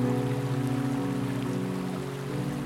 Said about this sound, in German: Bedrohlich, düster ist der Bach, nur noch ein schmales Rinnsal.